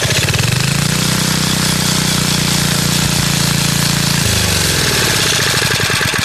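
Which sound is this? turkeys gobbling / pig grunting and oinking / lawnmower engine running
lawnmower engine running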